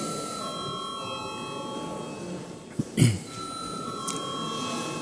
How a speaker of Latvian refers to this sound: Paldies, lūdzu zvanu.